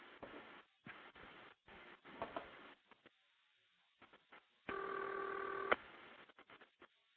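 An authentic old telephone ringback tone, added to a telephone recording to make it sound like an old phone system, sounds as one steady, buzzy, mid-pitched burst lasting about a second, heard over a thin phone line after a run of choppy clicks and line noise.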